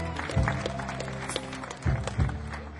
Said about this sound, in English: Gary, nice round of applause for Gary.